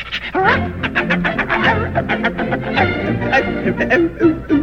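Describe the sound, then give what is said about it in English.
A person vocally imitates a dog, producing a loud run of rapid panting breaths mixed with short bark-like yaps, in a quick uneven rhythm lasting several seconds. “And a dog.”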